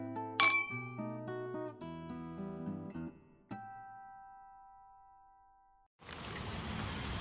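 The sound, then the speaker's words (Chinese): Glasses clink together in a toast, a bright chime early on and a second clink that rings out and slowly fades, followed by a steady hiss. No one speaks. “来，就像你说的，为了我们今晚美丽的邂逅，干杯。”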